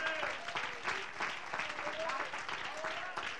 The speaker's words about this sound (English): Come on, give me a hand, clap of praise. Hallelujah.